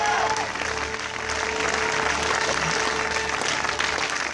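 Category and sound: crowd, audience applauding and cheering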